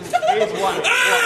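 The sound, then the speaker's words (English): A man lets out a loud, close scream that climbs sharply in pitch, a strained, wailing vocal outburst lasting about a second. “Okay, sir, we're going to need you to not scream like a wild banshee.”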